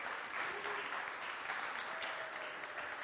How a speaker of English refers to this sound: Everybody give her a cheer.